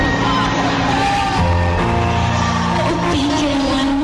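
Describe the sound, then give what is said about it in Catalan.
A man shouts loudly and at length, his strained voice rising and falling over about four seconds, close and forceful, with a dense, noisy backdrop that may be a crowd. “Tan malament, però el crit d'abans.”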